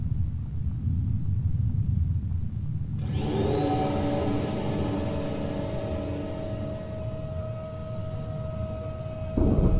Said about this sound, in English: I hope you don't mind the sound of a vacuum, because we're going to be here for a while.